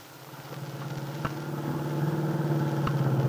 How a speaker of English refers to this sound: It is Sunday afternoon. Del Shipley, with Aunt Mary on the seat beside her, is driving her car toward the Lane Farm on Willow Road.